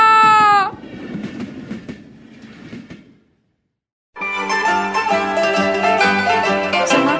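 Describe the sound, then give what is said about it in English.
A train in Italy, bound for Milano, rumbles along the rails with faint rhythmic clacking, opening with a brief horn-like tone; after a short silence, loud sustained music takes over. “Ma questo treno va a Milano!”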